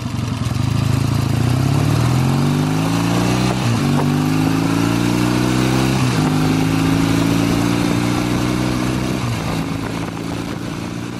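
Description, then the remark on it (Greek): A heavy motorcycle with a top speed of around 200 km/h accelerates through several gears, its engine pitch climbing steadily then dropping at each shift around every few seconds, loud, with no one speaking. “Και παρά το βάρος της για τη χαμηλή υποδύναμη, είχε μια τελική ταχύτητα γύρω στα 200 χιλιόμετρα, αν δεν κάνω αυτή η μηχανή.”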